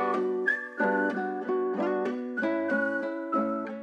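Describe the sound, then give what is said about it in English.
A catchy whistled melody hook rides on top of a full music backing, with short rhythmic phrases repeating over steady chords and a bass pulse, loud and up front. “And there's the whistle hook, obviously, that sticks in your mind.”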